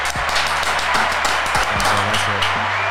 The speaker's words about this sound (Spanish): Vamos a dar ese aplauso.